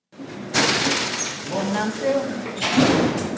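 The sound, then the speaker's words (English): Heavy prison doors at Stillwater prison, a high-security correctional facility in Minnesota, roll along their tracks and slam shut behind Secretary of State Steve Simon as he heads inside: two loud metallic clanks with a grinding, echoing slide between them. “At one of Minnesota's highest security correctional facilities, layers of prison doors shut behind Secretary of State Steve Simon as he heads inside to meet with a group of 15 inmates.”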